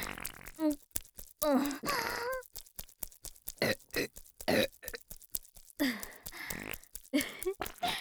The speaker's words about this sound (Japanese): ゲップくっさ。どう？こっちのガスのお味は？上から出るガスも強烈じゃん。